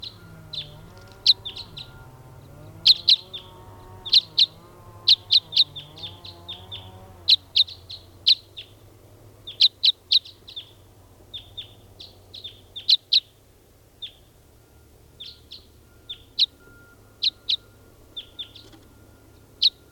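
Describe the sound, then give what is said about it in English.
Sharp, high-pitched chirps from bird number 499, recorded during testing, ring out in quick bursts throughout, fairly loud and irregularly spaced, with a lower warbling murmur of other bird calls beneath them during the first few seconds. “Testing now, bird 499.”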